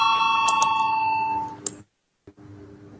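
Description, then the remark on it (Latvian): A parliament voting bell rings steadily for almost two seconds before a vote on a proposal, with a bright, metallic tone, then cuts off abruptly into near silence before faint room noise returns. “Lūdzu zvanu, balsosim par 16. deputātas Indriksonas iesniegto priekšlikumu.”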